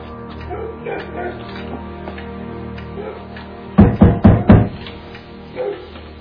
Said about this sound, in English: You didn't ask there. Knock on that door.